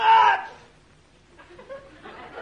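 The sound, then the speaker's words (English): A single sharp sneeze bursts out at the start, loud and brief, followed by a quiet pause and then soft, indistinct murmuring and chatter. “Well, it wasn't me, sir. I didn't sneeze.”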